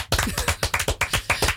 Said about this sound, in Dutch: Nou, een warm applaus voor